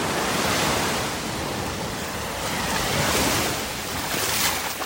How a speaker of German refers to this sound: Aufbrausend, windig und wellig an der Küste von La Parrette im Südwesten von Fuerteventura liegt dieser Hotspot für Surfer und Wellenreiter.